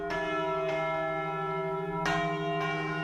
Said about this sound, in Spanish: Al tiempo que suenan ya las campanas del santuario de la Virgen de Nuestra Señora de la Almudena, llaman a misa, así que la carroza real emprende de nuevo camino para llegar a su cita.